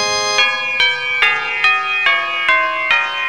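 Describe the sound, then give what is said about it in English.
Village church bells ring out in a steady peal, about eight bright, resonant strikes in quick succession, each tone overlapping the lingering hum of the last. No voices are present. “Or was it the bells from the village below?”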